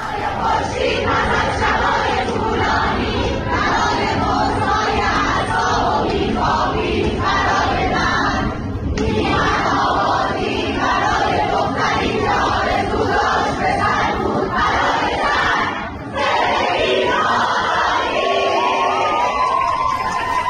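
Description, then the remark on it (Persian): A loud crowd of girls chants protest slogans in unison in the middle of Soore University in Iran, voices rising in rhythmic shouted phrases that continue for the whole stretch, with only brief breaks between bursts. “دقیقاً مثل همین دخترها تو دانشگاه سوره که دیروز برای هاشون رو وسط دانشگاه اینطوری فریاد میزدن.”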